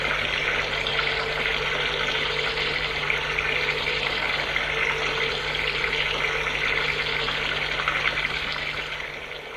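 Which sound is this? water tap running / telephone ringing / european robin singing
water tap running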